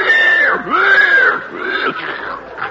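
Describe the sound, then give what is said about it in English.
A 400-pound, prize-winning pig grunts loudly while being fed at a farm livestock exhibit, with drawn-out, wavering squealing tones that run almost continuously for a few seconds. “Let us go over and visit with her while she is feeding her pig.”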